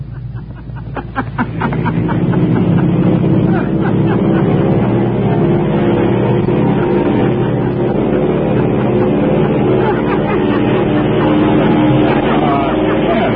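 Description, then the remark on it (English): An airplane taking off: its engine builds over the first two seconds into a loud, steady roar that holds to the end, with the pilot's laughter and voice sounding over the din. “Is the sound of an airplane taking off with the pilot laughing.”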